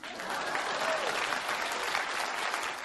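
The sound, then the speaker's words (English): A crowd at a presidential candidate's campaign event applauds steadily after he asks them to please clap, a dense, even wash of many hands clapping at a moderate level that holds for the whole stretch without breaks or swells. “When a candidate has to bring their own applause sign to an event, you kind of know that there's a little bit of trouble around.”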